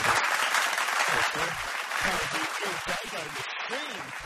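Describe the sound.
A steady wash of audience applause, dense and loud throughout, with a murmur of voices mixed in underneath the clapping.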